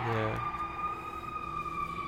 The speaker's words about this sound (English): Well, now that the ambulance is gone, maybe not. Hope they're okay.